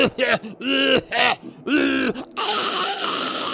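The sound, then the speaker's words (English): A person clears mucus from their throat: a run of strained, voiced throat noises, groaning bursts with bending pitch and brief gaps, then a sustained harsh, raspy hacking sound like clearing or coughing. No words are spoken. “Why are you coughing and what are you doing with your throat?”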